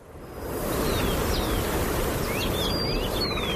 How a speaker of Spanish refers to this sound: Como te digo, lo que escuchas es el sonido de los pájaros. Qué tranquilidad, ¿eh? El viento, poco más. Lo que hay es un pueblo, lo decías, un pueblo tranquilo, un pueblo vacío, desierto, en ruinas.